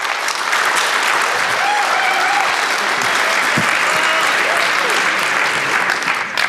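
Sustained applause from an audience, a dense, steady wash of clapping that stays loud and even for several seconds, with faint murmurs and the odd voice mixed in.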